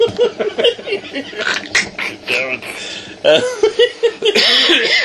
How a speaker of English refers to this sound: Cough. Sorry, right? Yeah. That's a bloody cologne he's wearing. Yeah, that's a cologne, yeah. Got me a little bit as well.